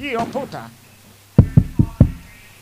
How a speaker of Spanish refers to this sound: Hemos colocado aquí el micrófono. Ahora mismo llegan a una casa y se disponen a llamar a la puerta.